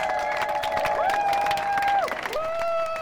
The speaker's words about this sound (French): On applaudit les amis en mer sur leurs kayaks et leurs catamarans.